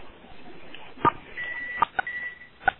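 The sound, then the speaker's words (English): A conference-call line gives a few short electronic beeps and two thin, steady higher tones as someone keys in star six to mute the line, over faint background hiss. “Whoever's washing their dishes, it would be joyous if you would hit star six.”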